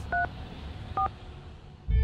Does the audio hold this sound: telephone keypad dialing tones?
yes